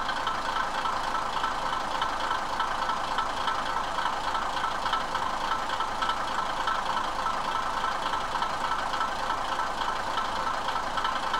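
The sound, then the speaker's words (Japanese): The DMH17 engine of a Kiha 52 diesel railcar, in service since 1965, on the Oito Line from Itoigawa, drones steadily and loudly throughout, a dense rattling, knocking mechanical roar with a constant rumble echoing off the mountains, and no speech. “まずは、糸魚川から走っている大糸線のキハ52の音から聞いてください。”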